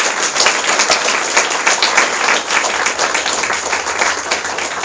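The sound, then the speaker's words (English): An audience applauds a panel for their program steadily for about five seconds, a dense, loud wash of many hands clapping at once with no pauses and no voices rising above it. “And I'd like to give them a great round of applause for the wonderful program they got.”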